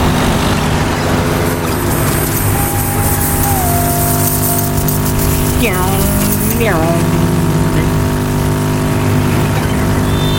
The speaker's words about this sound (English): Driving on some water.